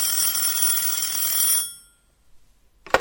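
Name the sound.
telephone ringing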